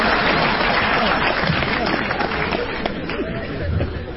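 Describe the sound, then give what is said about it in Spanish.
An audience applauds steadily for about four seconds, a dense, even wash of clapping mixed with crowd chatter and murmuring voices underneath. “¿Qué aplauden?”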